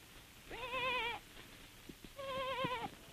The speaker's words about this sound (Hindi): एहर केकर आवाज हो ही भेड़िया पीला का नरियाना जान पड़त है। जहाँ ले नरियाना की आवाज आत रहीस हुई डहर ओहर चले लागिस। खड्डमा जाकर ओहर देखिस कि पीला हर झाड़ी मा फंसे पड़े है।